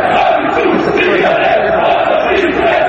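A large crowd of Dinamo Zagreb football fans, the Bad Blue Boys, chants loudly and continuously against club executive president Zdravko Mamić, voices merging into a dense, roaring wall of sound with rhythmic swells.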